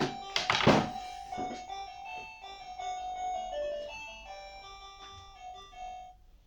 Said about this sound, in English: What the fuck was that, listener? Like, of all the things you'd think Justin Panks would have as a doorbell, did anyone think it might be that little jaunty number?